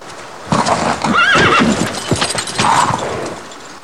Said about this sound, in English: makes her way through the mud to the horse as it whinnies and paws the ground.